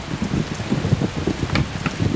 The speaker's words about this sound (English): Damn, baby, it's raining hard in the motherfucker.